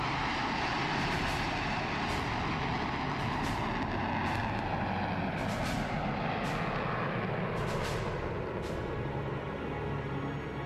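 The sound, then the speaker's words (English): A Boeing 737 jet airliner roars overhead in Yellowknife as the grand finale of a tribute flypast, a loud, dense, steady rumble filling the whole stretch without fading, with no voices present. “The grand finale, a Boeing 737, just like the downed plane.”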